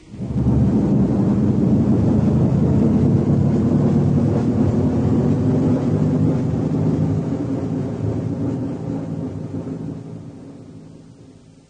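A shuttle's main engine burns after its hull doors open and clamps release, separating it from the larger ship, with a deep, continuous roaring rumble, loud and heavy in the low end, holding steady for several seconds before slowly tapering off.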